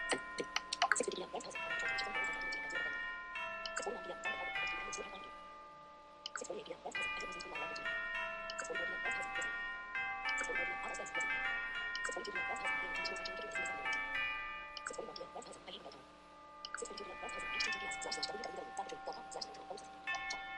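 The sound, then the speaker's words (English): Bells of a tower ring out in a steady, melodic chiming pattern, bright tones overlapping and ringing on for about twenty seconds, fairly loud, with a brief lull partway through. “I think the bell tower hates me.”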